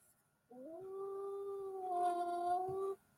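A single wolf howl, rising briefly at the start and then holding a steady, drawn-out tone for about two and a half seconds before cutting off, fairly loud.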